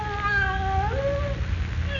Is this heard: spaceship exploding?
no